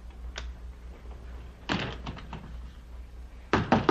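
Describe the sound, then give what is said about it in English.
Knocking on a door: one light rap, then two quick bursts of three or four firm knocks separated by a pause, loud with no one speaking. “And we never open doors for people we don't know, right?”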